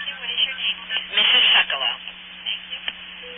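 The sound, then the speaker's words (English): A short run of MF telephone signaling tones from the old AT&T system comes through a narrow, noisy phone line, with one louder burst in the middle and a steady low hum underneath. “Now, you hear that? Yeah, those are MF tones. And That was the old AT&T system.”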